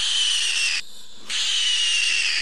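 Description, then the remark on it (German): A piglet screaming during castration: two long, piercing, harsh shrieks, loud and sustained, split by a brief pause, with no talking over them. “Und so hört sich die Kastration an.”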